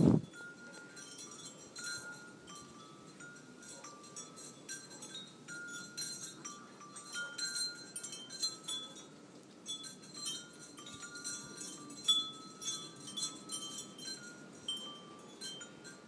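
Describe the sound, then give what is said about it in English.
Wind chimes ring continuously outdoors on a cold, very windy day, bright metallic tones sustaining and overlapping at several pitches over a low, steady rush of wind, with irregular clusters of soft clinks rising and falling. “Hey guys, I'm outside where it's really windy, and I wanted to record not only the wind, but our cool wind chimes, so.”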